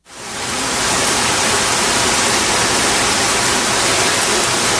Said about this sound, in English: And it would rain like that for several hours. Well, the rain would come and go.